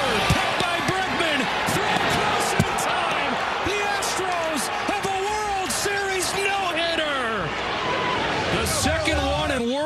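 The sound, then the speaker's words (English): A ball bounces repeatedly on a hard floor amid echoes, with sharp thumps scattered through a steady din of voices, shouts and squeaks. “Bouncing ball.”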